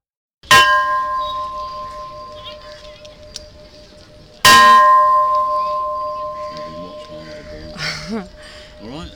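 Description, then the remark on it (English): Bells of a Hindu temple in Pokhara, at Devi's Fall, ring out in two loud, separate strikes about four seconds apart, each leaving a long shimmering hum that slowly fades, with faint voices murmuring in the background near the end. “These are the bells in the Hindu temple in Pokhara.”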